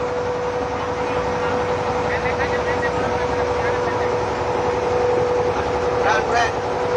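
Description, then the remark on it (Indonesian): A steady, droning boat engine runs throughout on the water near Pulau Penyengat in Riau, Indonesia, a constant mid-pitched hum with wash and wind noise around it, loud, with faint voices mixed in. “Tapi depan ada perahu.”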